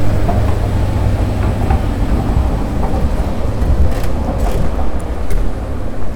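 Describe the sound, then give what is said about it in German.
An S-Bahn commuter train rumbles loudly and steadily through a station, a dense low roar with faint high squeals and clatter on top, and no voices. “Ja, und hier fällt schon wieder die S-Bahn aus.”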